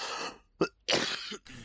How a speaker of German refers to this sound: Nee, du hustest lieber. Ist auch viel besser, viel Mann, angenehmer. mein Husten. Ja, merkt man. Entschuldigt. Ich glaube nicht, wie mich das aufregt. Euch regt es wahrscheinlich auch auf, wenn ich mitten in die Aufnahme reinhuste.